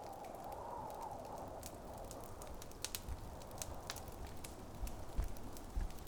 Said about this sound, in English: I've got the fireplace going.